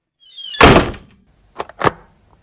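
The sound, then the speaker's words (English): A door creaks briefly and swings shut with a solid thud, followed a moment later by two quick metallic clicks of a lock turning. No voices. “Lock the door and take a seat.”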